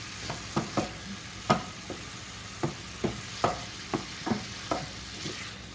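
Sausage sizzles steadily in a frying pan while a utensil mashes it into tiny pieces and scoots them around, scraping and tapping against the pan in irregular strokes, a dozen or so sharp knocks over the constant hiss, with no talking.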